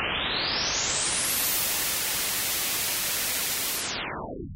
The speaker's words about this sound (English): The same way that white light is a combination of every color, white noise is a combination of all the frequencies that we can hear.